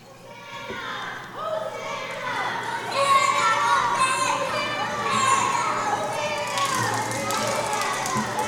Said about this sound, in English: So much racket. Shouting, singing, feet rushing.